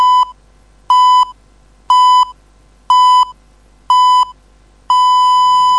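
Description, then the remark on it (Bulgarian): A Bulgarian radio time signal marking 12 o'clock: five short, evenly spaced electronic beeps one second apart, followed by a longer sustained beep at the same pitch, loud and clear with no talking. “Сверете си часовника Семтел.”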